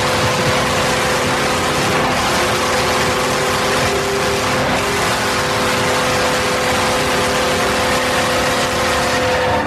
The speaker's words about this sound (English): Well, that is a full-throated horn. It's got a nice sort of subtle emergency signal in the background, kind of an ambulance thing going on there. I like that. I detected hints of oak also. The thing just never ended.